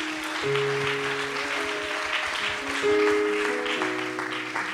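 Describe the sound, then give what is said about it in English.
A church audience gives a hand clap of praise for several seconds as it goes into worship, a dense, even wash of many hands, while sustained keyboard or organ chords play underneath and shift between notes. “Let's give him a hand clap of praise as we go into worship again.”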